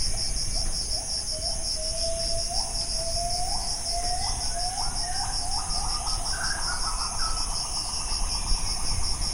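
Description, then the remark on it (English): A dense chorus of night jungle insects chirps steadily in pitch-black jungle, heard from a hammock, with shrill, continuous high buzzing and pulsing trills, while a lower repeated call rises in pitch and quickens underneath. No one speaks. “And here's the insect nightclub all around you.”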